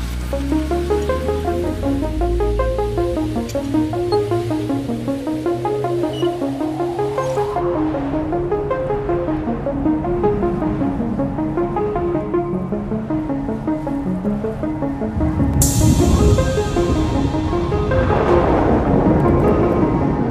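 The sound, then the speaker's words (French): A deep, continuous roar like a rocket engine rumbles beneath shifting pitched tones, then surges louder and broader in the final seconds. No voices are heard. “3, 2, 1, ignition.”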